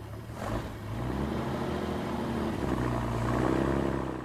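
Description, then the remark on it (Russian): A car carrying a handcuffed prisoner, with a senior lieutenant at the wheel, runs steadily and then pulls away, its low hum rising slightly in pitch as the vehicle accelerates off, with no voices. “Полоненого в наручниках посадили в машину. Старший лейтенант за кермом. Поїхали.”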